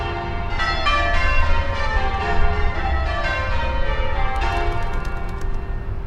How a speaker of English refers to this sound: Traffic is the dominant sound from where I'm standing, but the church itself has a very active tower bell ringing community